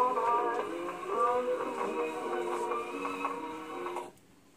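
A Victrola phonograph, which works without electricity or batteries, plays a scratchy old record, tinny music with a steady tune and crackly surface noise, running several seconds before stopping abruptly.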